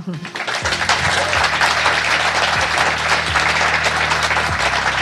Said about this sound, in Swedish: Varm applåd till dem.